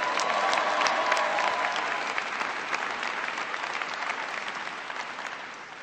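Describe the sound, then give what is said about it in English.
A crowd applauds steadily as Colorado officials are acknowledged, including Mayor John Hickenlooper, Senator Michael Bennet and Secretary of the Interior Ken Salazar; dense clapping fills the whole clip at an even, fairly loud level before easing off slightly toward the end, with no voices rising above it. “Mark Udall's not here, but give him a round of applause anyway.”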